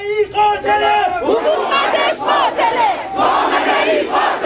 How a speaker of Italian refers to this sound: Poi sono iniziati gli slogan contro il governo di Teheran.